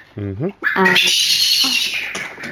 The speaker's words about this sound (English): Your bird is going nuts in the background. Yes. Sorry about that.